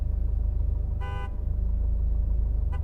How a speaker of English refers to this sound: We've been stuck in this stretch for, I don't know, 2 hours. And these bastards are still honking their horns as if it would do any good. It's just giving me a fucking headache.